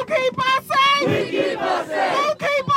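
About 100 protesters rallying at night in the biting Rochester cold outside a police precinct shout chants together in loud, rhythmic bursts, many voices rising and falling in unison with brief pauses between phrases.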